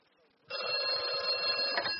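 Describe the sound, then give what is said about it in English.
A telephone rings loudly and steadily during an outgoing phone call after a brief moment of near silence, the bright, buzzing tone holding without a break until the end. “I'll just make a phone call and then we'll be off, okay?”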